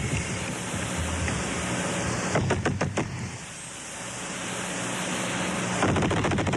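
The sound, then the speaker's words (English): Hands bang on a table as a trial witness recreates a sequence of gunshots: a quick run of sharp thumps that mimic gunfire, a tight burst of several hits, a pause, then a fainter flurry, over a steady background hiss. “Just using your hands on the table and bang out the series of shots.”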